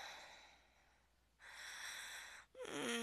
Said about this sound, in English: I love your breathing. Gasps of breath.